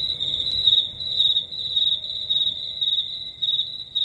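Crickets chirp in a steady, high-pitched trill that pulses slightly without breaking, with a faint low rumble underneath and no voices.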